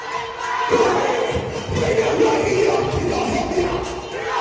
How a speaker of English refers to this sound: But all the hoopla and yelling, I'm not interested in doing that. Hold on. Let's hear him hoopla and yell one more time.